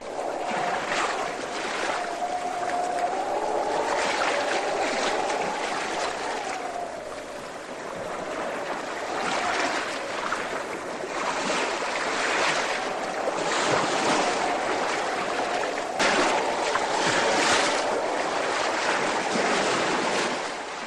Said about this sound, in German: Setzen Sie sich am besten gut hin und werden Sie nicht seekrank, wenn gleich ein kräftiger Wellengang kommt,